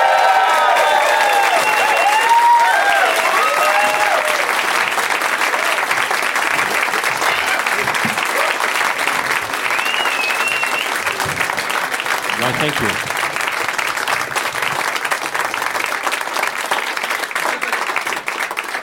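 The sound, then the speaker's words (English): Sustained, loud audience applause welcoming returning Leonard Maltin Game winners Nick Thune and another and challenger Paul F. Tompkins, a dense steady wash of clapping with some whoops and cheers early on and a voice briefly speaking over it. “Long applause.”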